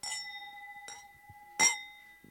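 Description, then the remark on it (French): Glasses clink together three times in a toast at a water tasting, each strike bright, leaving a clear ringing tone that lingers between them; the last clink is the loudest. No one speaks. “Donc, plutôt que de parler de catastrophe, on va trinquer plutôt à eux.”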